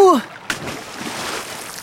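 A brief falling, creaking tone as an old footbridge breaks gives way to a sharp splash as a person falls into a river, followed by steady sloshing and churning water noise, moderately loud, with no talking.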